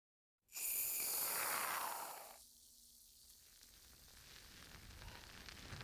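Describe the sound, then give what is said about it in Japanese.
A soft, dense crackling fizz of foam shampoo bubbles as more foam shampoo is added, loudest for the first second or so and then settling into a quieter, steady sizzle. No voices. “泡のシャンプーはもう少し足していくので、お耳からも癒されるよう、シワシワの音に耳を澄ませてくださいね。”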